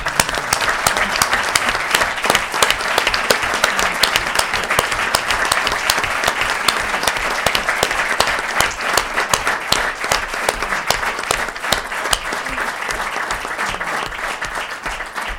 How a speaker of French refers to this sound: Je demanderai à Rémi de se lever pour que nous puissions l'applaudir pour cette reconnaissance bien méritée.